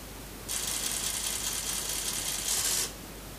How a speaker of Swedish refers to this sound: Och så hör vi det missnöjda rasslet av en antennavstämningshet som inte alls är glad.